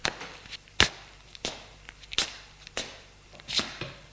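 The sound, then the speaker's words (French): Footsteps of a person groping their way along a corridor after leaving a bedroom, about half a dozen sharp, clicking steps at a steady, unhurried pace, each one crisp and moderately loud, with softer scuffs between them and no voices. “Suit le couloir.”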